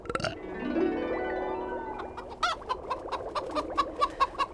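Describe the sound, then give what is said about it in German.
A sustained warbling tone gives way to a chicken clucking, a run of about eight or nine short, close, evenly spaced clucks that grow slightly louder toward the end. “Ach, die Schlammhexe ist ein Huhn geworden.”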